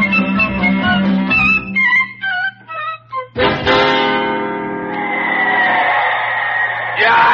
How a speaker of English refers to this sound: The crowd is yelling so loud here at the stadium, I just can't hear a word that you're saying.